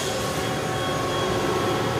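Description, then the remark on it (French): An electric leaf blower with three speed settings runs steadily in Molenbeek, a continuous loud whooshing roar with a faint high whine, unchanging for the whole two seconds, no voices. “C'est une souffleuse électrique.”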